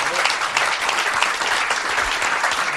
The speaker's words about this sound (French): On peut applaudir en tout cas